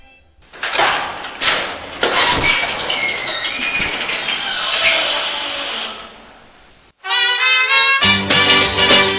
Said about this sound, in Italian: Sabato sera, dopo il corteo, una scoppiettante carovana di macchine sfila sotto le case di chi ha gli arresti domiciliari, poi si sposta sotto il centro di via Corelli.